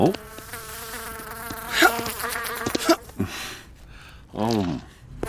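A fly buzzes around a cat's nose in steady harmonic drones that swell and fade as it circles, with a few short bursts of other sounds mixed in.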